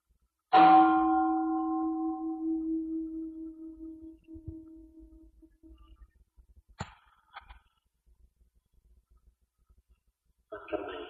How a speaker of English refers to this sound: Let's listen to the bell. The gong.